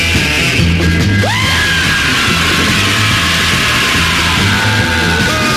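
A loud, driving rock track with a pounding repeated bass line, as a raw vocal lets out a long, rising scream that holds over the dense, distorted band.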